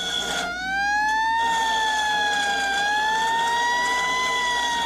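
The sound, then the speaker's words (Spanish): A loud emergency siren wails continuously, its tone sliding slowly up and down in a steady sweep with no voices over it. “Oye, Dani, cada vez que escucho esa sirena tiemblo como gelatina.”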